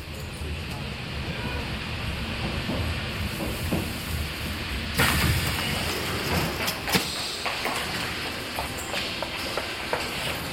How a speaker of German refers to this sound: Wir müssen mit der U-Bahn-Linie 9 in Richtung Steglitz bis zur U-Bahn-Station Günzelstraße fahren.